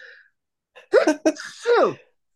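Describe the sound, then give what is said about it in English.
A loud sneeze: a quick intake of breath, then a sharp explosive burst with a brief second catch and a drawn-out, voiced tail fading away. No one talks. “I'm gonna sneeze.”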